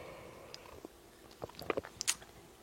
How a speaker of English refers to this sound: Give me a moment. I'll sip water.